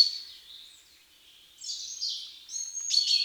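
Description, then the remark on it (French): Sharp, metallic 'pink' calls, the most characteristic call of a common chaffinch, ring out several times in quick succession, bright, with no voices. “Le pinson des arbres connaît deux cris principaux. Le pink est le plus caractéristique, il est souvent doublé ou triplé.”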